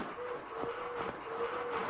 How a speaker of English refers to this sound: A little boy comes into the office pulling a toy train.